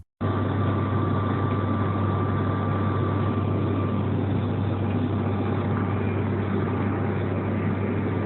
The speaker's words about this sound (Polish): Oto film zamieszczony przez użytkownika Lexus.net, lecącego zupełnie sam na trasie Szczecin-Poznań ATR-em 72 linii OLT